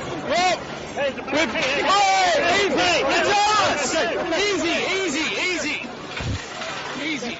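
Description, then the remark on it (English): A dense crowd of protesters roars with overlapping shouts and agitated voices, loud, a continuous chaotic surge of many people yelling at once, with a sharp thud near the end; protesters throwing things at a police line at a barricade while police push back against the crowd. “As you can see, people are now starting to throw things at them and they're pushing back against the crowds.”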